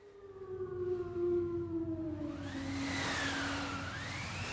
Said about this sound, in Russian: Это волки.